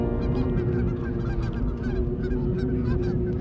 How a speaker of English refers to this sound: Love loving memory of Sarah, I included this geese song because wild geese had come up to the window of her room as she transitioned in Boston.